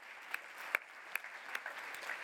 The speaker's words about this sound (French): Là encore, bravo, félicitations. On peut les applaudir.